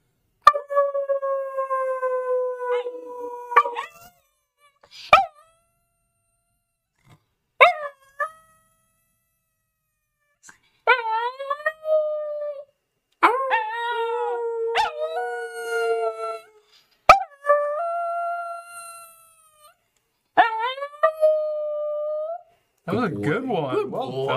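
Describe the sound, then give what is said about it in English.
A dog, a puppy named Archie, howls in long, wavering, rising-and-falling tones while people howl along with it ('the awoo') to make him howl. Several drawn-out howls are separated by short pauses, fairly loud. “Should we make him howl? You want to do the awoo?”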